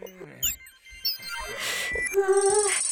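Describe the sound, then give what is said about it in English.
A phone ringtone chimes, a quick run of bright electronic chirps followed by a sustained, buzzy melodic tone that rings out near the end. “Shh, be quiet, little phone.”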